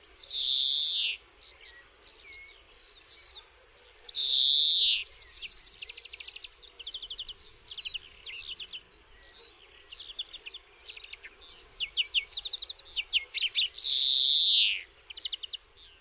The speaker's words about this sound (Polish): Śpiew dzwońca składa się z dźwięków dwojakiego rodzaju. Najbardziej charakterystyczne dla tego gatunku są przeciągłe, lekko trzeszczące sylaby, którymi samiec odzywa się już pod koniec zimy.